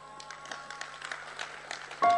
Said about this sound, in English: You see, this clapping I've seen before. This clapping.